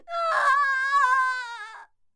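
A woman lets out one loud, high-pitched scream of pain as she is struck with a ruler, starting sharply and holding for nearly two seconds with a slight wavering fall before cutting off, with no other talk.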